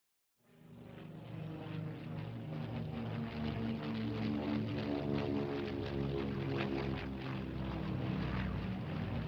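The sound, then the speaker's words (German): Propeller aircraft engines drone steadily over Berlin in 1948, a dense, continuous roar with pulsing harmonics that starts abruptly and holds loud and constant throughout, with no voices. “1948 waren über dem Berliner Himmel häufig Flugzeugmotoren zu hören.”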